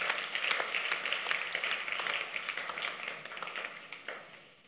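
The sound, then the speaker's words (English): An audience at a sermon claps in a steady, dense patter of many hands at moderate volume. It holds for several seconds before tapering off toward the end, and no voices stand out. “You're not clapping hands at all. Your clapping is weak.”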